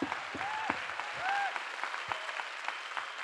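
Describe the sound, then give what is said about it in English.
Steady applause from an audience for the men in the room, a dense wash of many hands clapping at a constant level, with a few brief whoops and cheers rising above it. “So I just want a huge round of applause for the men in this room.”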